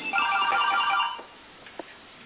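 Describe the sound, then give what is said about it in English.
A phone's outgoing ringing tone as the phone dials out to call the speaker's own number, sounding for about a second, steady and electronic with layered pitches, then stops, followed by quiet with a faint click. “See, my little phone is dialing out. You can hear it's dialing.”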